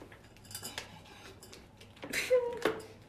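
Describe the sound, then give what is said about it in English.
A giant glass pizza tray is handed over: scattered light clinks and scrapes, then two sharper knocks near the end, one leaving a brief ringing tone. No talking. “I you hope you hand me that giant pizza tray.”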